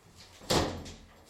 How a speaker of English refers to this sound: Hey, close the door. Close it.